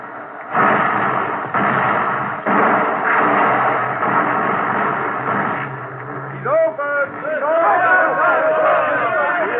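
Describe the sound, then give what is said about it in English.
An explosive blast is set off to break a frozen log jam on a river in Siberia: its thundering roar rolls on for several seconds in a dense, loud rumble, then voices shout and cheer over the fading noise. “Yes, they are waiting for the blast. Set it off.”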